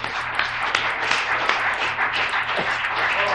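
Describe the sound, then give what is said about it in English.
A church audience claps for the Lord in a steady, dense burst of applause, many overlapping sharp claps forming a continuous crackling wash that holds an even loudness throughout. “But let's just give the Lord a good hand tonight, shall we?”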